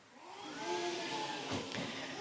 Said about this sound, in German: Den drei Mega-Hobby-Detektiven fröstelt es. Ein kalter Wind zieht auf.